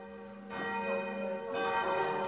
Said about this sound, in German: Das Glockenläuten im Festzelt kommt vom Band.